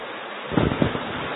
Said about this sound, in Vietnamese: Ở các vị thiền long là mưa lắm quá, mưa to quá giảng không, mọi người không nghe thấy, thôi giảm bớt đi.